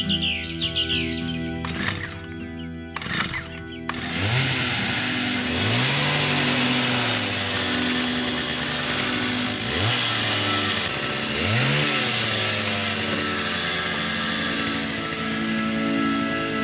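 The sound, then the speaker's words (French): A chainsaw engine starts and idles loudly, revving up several times in sharp rising bursts. Birds chirp faintly at the start, and no one speaks. “Vas-y, t'as activé le frein de chaîne là”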